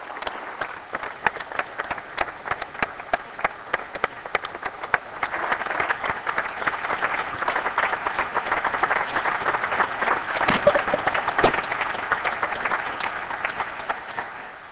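A room full of people claps in sustained applause, a dense crackle of many hands that swells slightly midway and holds steady for around fifteen seconds, with no voices over it.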